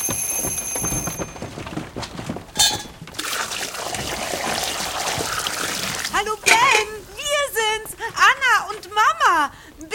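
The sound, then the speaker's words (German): Water splashes and rushes steadily for a few seconds as cooked pasta is drained into a strainer, then a voice starts talking while the pouring fades. “Boah, die Nudeln sind fertig. Oh, schnell abgießen.”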